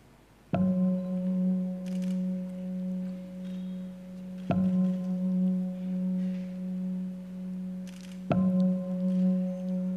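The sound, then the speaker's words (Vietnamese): A bell is struck three times at even intervals as a signal for listeners to join their hands and focus on their wish, each strike a sharp onset followed by a long, steady ringing tone with low and mid overtones that sustains until the next strike. “Nghe ba tiếng chuông chắp tay lại, tập trung vào cái quyền ước của mình.”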